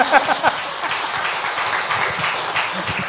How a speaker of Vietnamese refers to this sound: Phải cho tràng pháo tay.